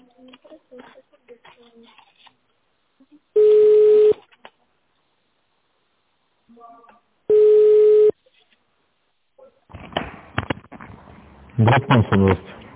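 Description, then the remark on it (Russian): A telephone rings twice on a call to the company Konfu group's line, each ring a steady, loud buzzing tone under a second long with a pause of a few seconds between, followed by a person starting to speak. “Наберите добавочный номер или дождитесь ответа.”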